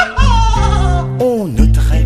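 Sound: cow mooing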